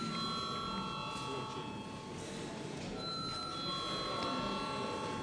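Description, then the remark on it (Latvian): A steady electric bell rings continuously for several seconds in a parliament to call members to a vote, a sustained metallic tone over a low murmur, with faint voices in the background. “Paldies, lūdzu zvanu.”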